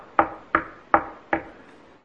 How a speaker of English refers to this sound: And a prophet, don't even know anything about him, except this. He knocks on the door of Israel.